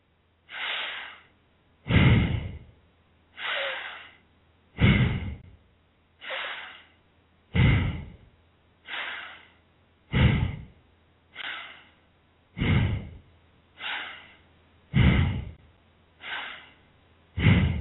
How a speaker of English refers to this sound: Continue like so. The benefits of long deep breathing is excellent for expanding one's lung capacity and bringing in maximum amount of oxygen in every breath.